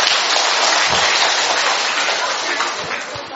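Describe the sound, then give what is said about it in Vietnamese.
A large crowd breaks into sustained, dense applause to give thanks to God, many hands clapping at once in a steady wash of sound that stays loud throughout and eases slightly toward the end. “Rồi, thưa anh chị em, một tràng pháo tay thật lớn để chúng ta tạ ơn Chúa.”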